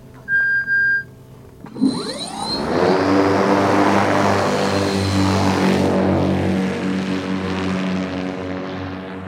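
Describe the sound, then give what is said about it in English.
A brief electronic tone sounds. Then an autonomous, battery-powered crop duster plane built by Pika roars past over a farm in California's Central Valley with a sweeping whoosh, settling into a loud, steady propeller drone with a buzzing, harmonic hum. “I'm here for the crop duster.”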